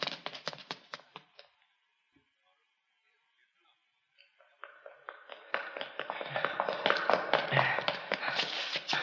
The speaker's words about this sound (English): They're coming up the steps.